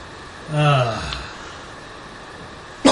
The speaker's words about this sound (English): excuse me. Goddamn cough.